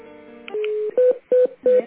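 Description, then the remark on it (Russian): Telephone call transfer tones as a call is switched over: a steady electronic tone followed by three short, evenly spaced beeps, loud over a quiet line, with no voices. “Я вас переключаю.”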